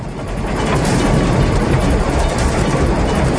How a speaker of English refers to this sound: Anderson and Ward are forced to pull up short as a massive Trans-American goods train blocks their path.